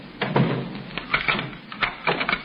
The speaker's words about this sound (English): Well, can't you wait until I close the door?